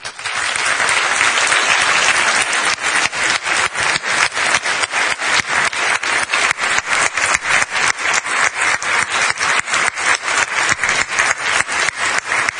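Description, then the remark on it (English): A large church audience applauds loudly to honor the church's elders, starting as a dense wash of clapping that soon settles into steady, rhythmic clapping in unison, continuing without any talking. “And so today I applaud you and I thank you.”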